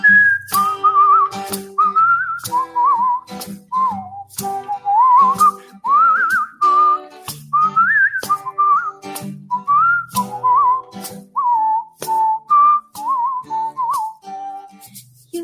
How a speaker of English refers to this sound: You whistle a while, and I'll whistle a while. We'll whistle a while together. You whistle a while, and I'll whistle a while, in warm or wintry weather.